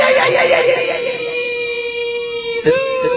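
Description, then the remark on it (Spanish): A single long, high-pitched yelling cry, an attempted sapucay, the traditional folk shout of Corrientes. It is held for about three seconds, loud, wavering slightly and breaking briefly near the end before trailing on. “Bueno, el Sapucay es ese grito, ¿no?”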